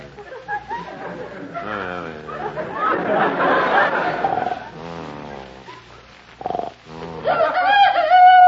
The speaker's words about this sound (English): Quiet. It's just a chicken crowing. Crowing? It's 3 o'clock in the morning. They're not supposed to crow until about 7. Oh, now I get it. The chicken's still on California time.